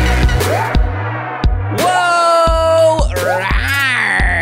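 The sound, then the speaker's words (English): A person growls loudly and excitedly, a rough, sustained vocal sound with rising pitch swoops, set against a steady, pulsing beat. “That's me growling with excitement because you're listening to the one and only RuPaul's Drag Race Recap podcast in the whole goddamn world.”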